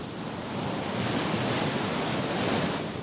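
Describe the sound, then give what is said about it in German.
Heavy, high ocean surf roars continuously onto a Caribbean beach at Palomino in northern Colombia, a dense, steady wash of crashing, foaming waves that swells slightly in the middle, with some wind rumble and no voices. “Noch nie habe ich so hohe, wuchtige und schäumende Wellen wie hier gesehen.”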